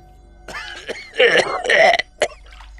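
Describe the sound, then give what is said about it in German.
Harsh, wet coughing from someone coughing up blood, a few raspy throaty bursts in a row with brief gasps between, ending in one short final cough. No one speaks. “Wenn du ausgespuckt hast, beginnst du zu husten, hustest mehr Blut raus.”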